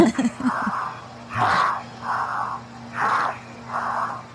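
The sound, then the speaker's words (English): Heavy, labored breathing of a man during a jump, falling at about 700 miles per hour, in a steady rhythm, with about six loud, rasping inhales and exhales over a constant low mechanical hum. “Listen to how labored his breathing is.”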